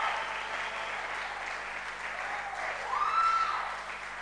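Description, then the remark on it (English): A crowd claps steadily in praise to God at a preacher's call, a dense, continuous patter of many hands that swells slightly toward the end, with a brief high whistle-like tone rising over it. “Let us all clap. Some are clapping.”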